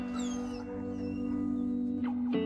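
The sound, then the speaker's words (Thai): Max, the war dog from the film Max, whimpers in thin, high-pitched whines that slide up and down, followed by a couple of short yelping cries near the end, over a steady low hum. “Oh, you hear that, Max? Say hi Come say goodbye to your brother Max”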